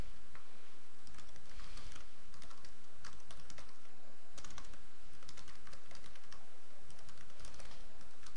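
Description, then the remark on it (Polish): Rapid, irregular key clicks from a computer keyboard as a Live ID login is typed, fairly quiet, continuing steadily for several seconds with brief pauses, no voices present. “Teraz, uruchamiając naszą aplikację, po uruchomieniu się pierwszej strony, zostaniemy poproszeni o wprowadzenie naszego Live ID.”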